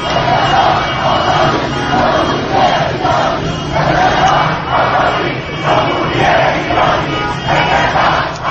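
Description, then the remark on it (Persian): A large crowd of protesters at Behesht-e Zahra, at the 40th-day memorial for those killed in recent events, shouts slogans in unison demanding the Islamic Republic become an Iranian Republic, loud rhythmic bursts of chanting repeating every second or so over a constant roar of many voices. “خواسته اخیر خود را، یعنی تغییر جمهوری اسلامی به جمهوری ایرانی، شفاف و واضح فریاد زدند.”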